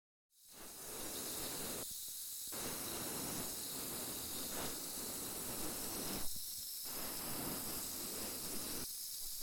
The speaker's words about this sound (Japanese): 次はこっちも炭酸綿棒で細かいの取り除いていくわ。